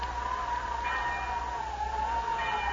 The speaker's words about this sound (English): Yeah. Listen. That's a school bell. I think you're right, Johnny. The wind must be ringing it. Well, if that's a school bell, there's a schoolhouse under it, and that's shelter for us. I can't tell which direction it's coming from.